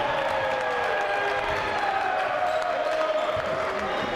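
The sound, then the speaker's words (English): Steady, loud roar of an arena crowd at a basketball game involving Clackamas, with the score at 71-67, a dense wash of voices and cheering that holds level throughout, with faint squeaks and bounces mixed underneath. “I've been to Division I games, a lot of Division I games that didn't have crowd activity like what we've got right now.”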